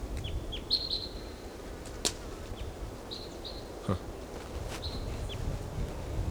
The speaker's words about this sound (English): Okay, there's another bird, maybe the same bird, but we don't know, singing in the top of this tree.